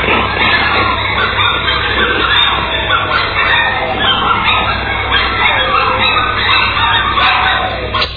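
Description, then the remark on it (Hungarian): Dogs barking on Nagy Görgős street, heard there daily, in a steady, overlapping din that never lets up, the yaps and howls blending into a dense, slightly muffled chorus lasting the whole stretch. “Hát illusztrációban engedjenek még nekem egy apróságot, hogy szoktassuk meg magunkat egy kis kutyaugatást.”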